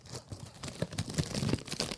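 crunchy food being chewed

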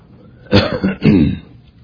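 cough and throat clearing

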